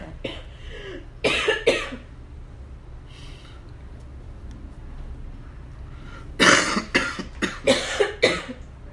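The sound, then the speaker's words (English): Harsh coughing in two bouts: a quick pair of coughs, a pause with faint background noise, then a longer run of five or six sharp coughs. No talking. “It's like a battle. I'm gonna get the last cough in.”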